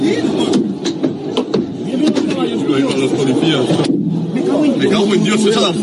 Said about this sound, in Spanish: Me cago en Dios, esa iba fuerte, dice, esa iba fuerte. Pues esos pum pum pum eran golpes que estaban recibiendo a distancia con cosas que se estaba tirando el autobús del Athletic en la llegada a Mestalla, que no es la mejor llegada posible